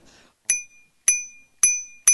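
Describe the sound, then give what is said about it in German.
A bicycle bell rings four times in a steady rhythm, each bright metallic ding ringing out and fading before the next. It sounds clear, with no talking. “Können Sie uns noch einmal Ihre Klingel vorführen? Die habe ich ausgesucht, damit sie die Leute nicht so erschreckt.”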